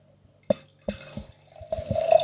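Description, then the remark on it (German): Wine poured into a glass: a few sharp clinks and splashes, then a steady gurgling stream whose tone climbs as the glass fills. No one speaks. “Wir trinken den Wein, den ich mitgebracht habe.”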